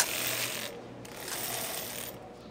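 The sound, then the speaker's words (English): The carriage of a heavy, low-tech manual knitting machine rasps and clatters along its needle bed in a steady, gritty mechanical run, dipping briefly twice before continuing, with no voices. “They're these sort of very heavy, very clunky, very low-tech knitting machines.”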